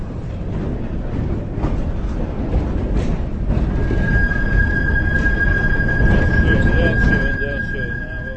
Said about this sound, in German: Ab da an gab es keinen Halt mehr und die Prager mussten sich auch ziemlich schnell an das neue Geräusch gewöhnen, wenn eine Straßenbahn in die Kurve bog.